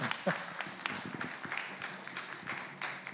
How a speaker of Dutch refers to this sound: Nou, prijs de Heer. Ik geef er een applaus.